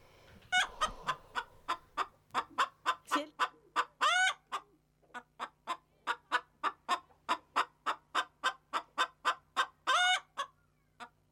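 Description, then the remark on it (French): Young hens kept by residents of a residential home cluck in a steady, rapid run of short calls, broken twice by a longer drawn-out squawk, with no talking over them. “Cocorico, foyer Lévite, certains résidents ont des poules maintenant.”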